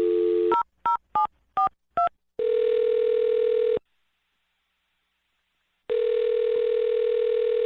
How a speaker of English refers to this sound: All right, well, I'm going to dial her phone number right now and see why she's not calling you back, okay?